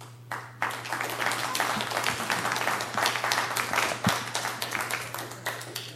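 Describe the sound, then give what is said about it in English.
Sustained applause from an audience after a public comment at a public meeting, a dense wash of many hands clapping at steady volume for several seconds, with a low electrical hum running underneath. “I'm going to ask again on the applause, when people have public comment, that everyone be treated fairly.”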